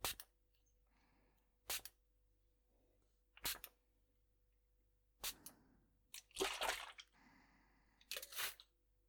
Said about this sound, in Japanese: まずは霧吹きで髪を濡らしていくからね。ちょっと冷たいかもしれないから我慢してね。